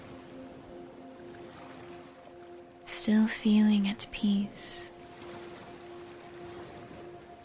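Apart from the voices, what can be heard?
ocean waves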